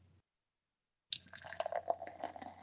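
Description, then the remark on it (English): A brief hush, then a vanilla nut cream ale with vanilla bean and almond extract, 4.7% alcohol, is poured into a glass, a steady gurgling splash with bubbly fizz that continues to the end. No voices. “And the pour?”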